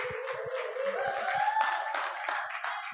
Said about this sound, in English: May you please give him a round of applause.